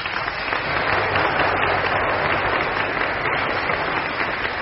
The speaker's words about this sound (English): And now a mezzo-soprano from East Preston, Victoria, winner of heat number 11. Your applause, ladies and gentlemen